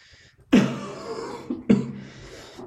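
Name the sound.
small cough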